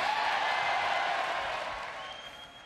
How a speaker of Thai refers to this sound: ทรัมป์เริ่มสุนทรพจน์ด้วยการประกาศว่าอเมริกากลับมาแล้วซึ่งนักการเมืองพรรครีพับลิกันในสภาก็ส่งเสียงเชียร์ด้วยการตะโกน USA กันอย่างต่อเนื่องนะครับ